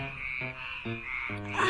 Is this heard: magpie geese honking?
no